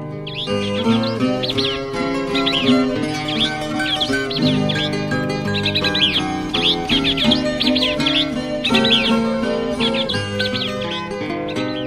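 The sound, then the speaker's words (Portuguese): Forest birds trill and chirp in quick repeated bursts, bright, layered over a steady, full bed of instrumental music throughout. “Entre todos, maestro nenhum faz o que fazem cantores da floresta. Eles vivem cantando eterna festa com seus lindos trinados musicais.”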